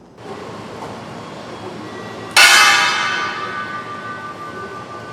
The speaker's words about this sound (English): They rang a bell once to observe a moment of silence for those lives lost from the 9/11 attacks.